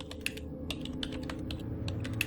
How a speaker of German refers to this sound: Was sagen sie denn? Aktuell machen sie noch diese Klickgeräusche.